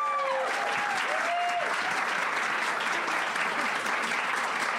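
Steady, dense applause from an audience fills the whole stretch, loud and continuous with a few faint whistles or cheers rising above the clapping.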